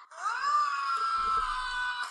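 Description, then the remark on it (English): Tom Cruise lets out a long, sustained scream in a movie clip, rising in pitch at the start and then holding steady and strained for about two seconds, loud. “Scream. My computer's loud enough because I got shit speakers.”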